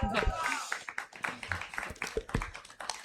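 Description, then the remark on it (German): An audience applauds the guests of a discussion with steady, dense clapping that holds at a fairly even level throughout, and a voice briefly sounds under the clapping near the start. “Ich lade euch einmal ein für einen herzlichen Applaus, weil es nicht einfach ist, vor so einem Publikum über dieses Thema zu sprechen.”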